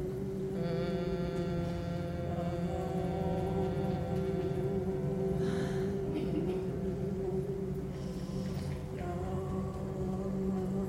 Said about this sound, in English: Humming your way, omming your way down towards your feet.